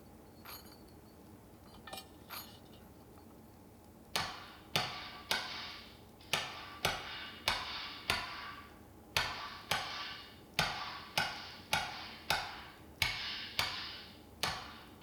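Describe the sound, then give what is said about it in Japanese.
A hammer strikes metal in a steady, ringing rhythm while a kitchen knife blade, reheated in the fire, is forged, about two blows per second after a few quieter taps at the start, each hit sharp. “また火にくべてガンガン。”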